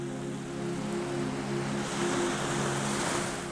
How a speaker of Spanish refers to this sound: El sonido del mar se vuelve más cercano, más envolvente. Las olas que golpean suavemente las rocas de la base del acantilado suenan como una respiración lenta y profunda que se mezcla